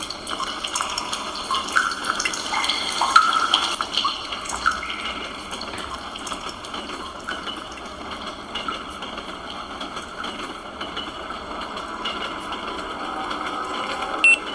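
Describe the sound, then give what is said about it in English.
Video game cave ambience of dripping water by a stalactite: a steady watery wash with scattered small drips and plinks, moderately loud and continuous throughout, with no voices. “Dripping water, stalactite, ducking.”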